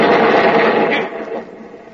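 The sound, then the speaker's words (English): A loud blast of rock being blown up in a canyon, a dense roaring rumble of falling debris that holds steady for a second and then gradually fades, with no voices. “Someone blew up that rock, and now we're the ones who are bottled up.”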